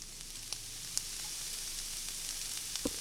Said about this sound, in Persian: سعی کنین آروم دو سومش رو وارد روغن کنید. اون موقع آروم ولش کنید که روغن جایی نپاشه. خب به همین روش تمام مرغا رو آروم آروم تو مایتابه میذارم، حرارتم کم میکنم.